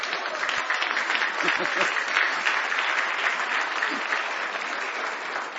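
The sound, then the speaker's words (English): An audience claps steadily, a dense wash of many hands at a moderate, even level that holds for several seconds without building or fading, and nobody speaks over it. “That hand clap sounded like y'all had chicken made out of the broth of a shad of a chicken that starved to death for supper.”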